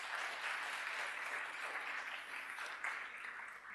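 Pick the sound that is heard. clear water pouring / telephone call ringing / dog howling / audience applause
audience applause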